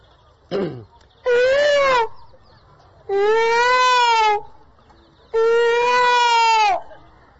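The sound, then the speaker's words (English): Peacocks call out through the night in loud, nasal wails, a short yelp followed by three long, drawn-out cries evenly spaced with brief pauses between them, with no voices. “But if you stay here, first thing all night long you hear the peacocks.”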